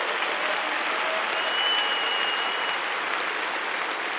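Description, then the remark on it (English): A crowd applauds steadily, a dense wash of many hands clapping at an even, fairly loud level that holds throughout without letting up. “Give them a hand clap for it.”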